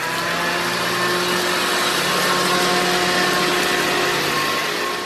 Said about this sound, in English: Oh, that's a shredder.